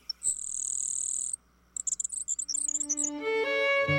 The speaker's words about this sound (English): Today, rather than the roar of cannons, fields like Antietam are filled with the songs of blue grosbeaks. Eastern meadowlarks, and of course, grasshopper sparrows.